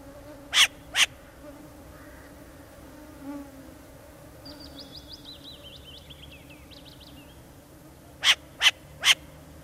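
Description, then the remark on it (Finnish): A short-eared owl's display: sharp, loud clapping bursts, a pair early and a quick triplet at the end. Between them, faint bird chatter plays over a steady low insect buzz. “Tässä äänessä oli suopöllö”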